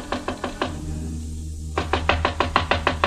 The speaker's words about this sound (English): The Hotel Malau wasn't far, and I was there in 5 minutes. Room 6 was on the first floor. There was a light on inside the room, and I knocked on Jan Svensson's door.